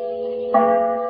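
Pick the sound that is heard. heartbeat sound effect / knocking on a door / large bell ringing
large bell ringing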